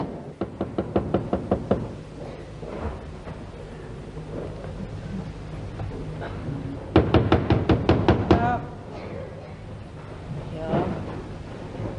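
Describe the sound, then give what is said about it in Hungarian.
Two bursts of rapid, loud knocking on a door at dawn, each a string of about eight sharp raps, separated by a pause, with a low rumbling storm-like background throughout. “Nem nyitsz már ajtót?”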